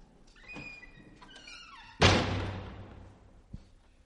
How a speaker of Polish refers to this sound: Mogę to zademonstrować, bo myślałem o ten temat dosyć długo, a więc ja teraz przejdę przez drzwi i mnie tu nie będzie.